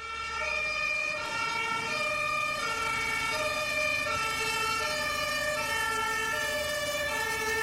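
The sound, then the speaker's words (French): A fire engine siren wails loudly as firefighters arrive, its two-tone call alternating steadily up and down over a low engine rumble, with no one speaking. “Les pompiers arrivent. Ils déploient leur grande échelle.”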